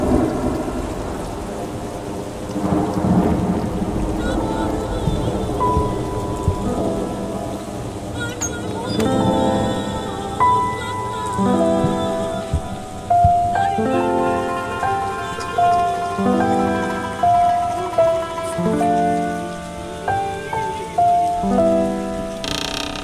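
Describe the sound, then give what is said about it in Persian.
Steady rain hisses throughout, with deep rolls of thunder rumbling beneath. A soft melodic music line enters partway through and plays over the storm. “نبار نبار بارون باهات قهرم.”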